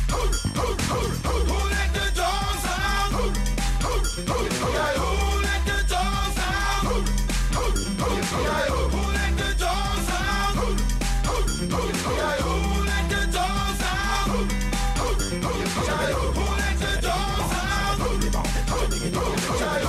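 An upbeat pop song plays loudly and continuously, driven by a steady thumping bass beat, with a chanted chorus punctuated by dog-like barks over the busy, layered music.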